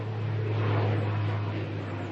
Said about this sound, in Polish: No i teraz właśnie słyszeliśmy odgłosy, że tutaj niedaleko jest właśnie lotnisko i ciągle tutaj nad Rosą przelatują samoloty i słychać te odgłosy.